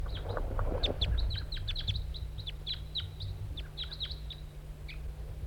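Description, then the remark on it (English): A lone, all-red male wild bird calls in a quick series of short, sharp, high chirps, repeated steadily for several seconds over a constant low hum. “Start recording the wild bird. It's a lone male, all red.”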